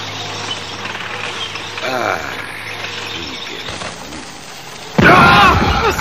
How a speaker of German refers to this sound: Was ist denn das? Granaten. Ich habe gar nicht mehr an diese dämlichen Knallfrösche gedacht.